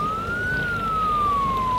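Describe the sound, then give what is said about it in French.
A police car siren wails steadily, its single tone gliding slightly up and then slowly down, sounding over a constant rumble of background noise with no voices. “Cinq minutes plus tard, ils entendent les sirènes de la police.”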